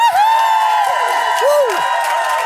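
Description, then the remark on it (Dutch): A live audience at a manifestation event cheers and applauds in a steady, loud roar of clapping, with shrill whistles and whoops sliding up and down in pitch above the crowd noise. “Een bijzondere mag ik wel zeggen, want ik heb live publiek.”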